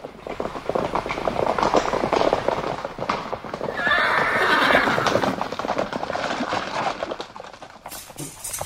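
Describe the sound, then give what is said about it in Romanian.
A horse whinnies loudly in a long, wavering neigh midway through while hooves clip-clop steadily on a hard surface, continuing throughout. “Unde ne putem ține cai?”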